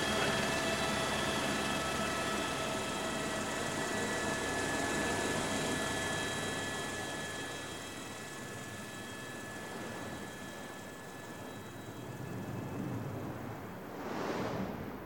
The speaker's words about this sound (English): The helicopter's just come down on this ridge between two incredibly steep valleys, and we're just sort of perched here on virtually nothing.